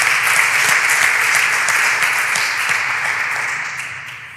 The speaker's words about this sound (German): Genau, erstmal klatschen.